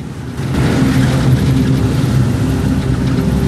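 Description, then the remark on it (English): A red pickup truck's engine drones steadily as it drives along a road through fertile countryside, a loud, continuous low rumble with road noise and no voices. “Ahmad and Jaffa sit in the back of the red pickup.”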